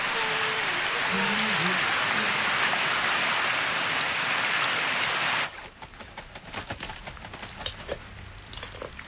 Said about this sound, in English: It's raining, it's raining, it's raining, it's raining.